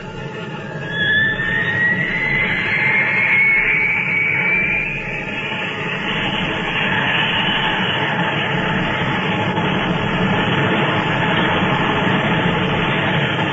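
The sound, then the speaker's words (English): A jet aircraft engine roars steadily and loudly throughout as the aircraft flies at 30,000 feet in near-perfect conditions with more altitude to climb, a high turbine whine climbing in pitch over the first few seconds before settling into a constant drone. No voices. “Flying level, 30,000 feet. Conditions pretty near perfect. I've got another 10 to climb.”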